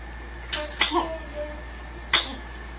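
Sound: baby sneezing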